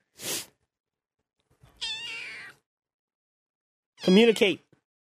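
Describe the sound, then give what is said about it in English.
A kitten meows twice, thin and high-pitched, each cry drawn out for about half a second, with a short soft burst of noise before the first and quiet gaps between calls. “You interested in the kitty?”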